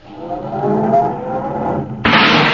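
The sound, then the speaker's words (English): A car engine starts and revs with a steady, grinding drone for about two seconds, then cuts abruptly to a loud rushing hiss, as the car is started to be backed into parking space number 7. No voices are heard. “Yeah, well, start it up, Andy, and back it over there in space number 7.”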